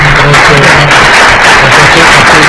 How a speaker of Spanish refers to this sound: Y le vamos a dar otro aplauso.